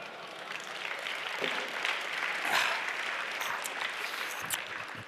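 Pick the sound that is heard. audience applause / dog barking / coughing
audience applause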